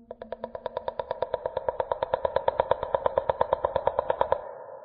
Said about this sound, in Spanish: Una vez más, el bramido como de ballena se hizo presente, seguido por los sonidos de clics más raros que he escuchado.